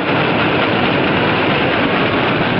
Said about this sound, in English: The train rolls on toward the tunnel with the explosives in tow.